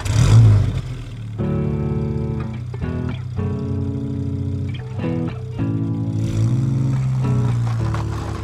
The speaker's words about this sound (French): Par réflexe, j'ai mis le contact, j'ai même pas allumé la musique, j'ai démarré, j'ai commencé à avancer.